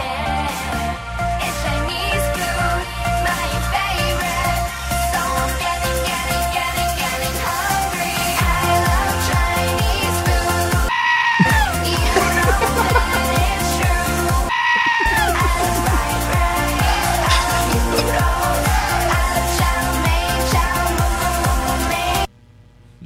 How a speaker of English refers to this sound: Do you guys want to hear the Yelling Goat remix of …?